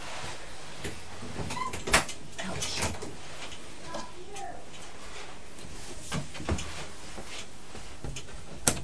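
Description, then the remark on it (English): A door is pushed shut, with a couple of sharp knocks and clicks standing out over soft background voices and household rustling. “You're shutting the door.”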